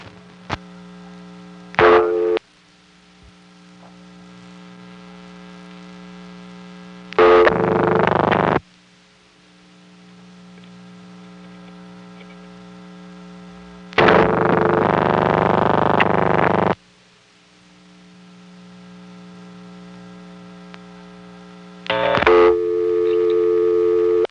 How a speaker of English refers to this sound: Notice that the class of service tone kept coming on every time I picked up my phone again.